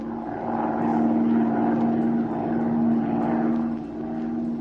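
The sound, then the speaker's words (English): A small propeller plane's engine drones steadily as it circles lazily over a city, a continuous low hum with a bright tonal whine that swells slightly and settles, with no voices over it. “short time later, Zee and Patricia Norwood took off in Zee's plane and began to circle lazily over the city.”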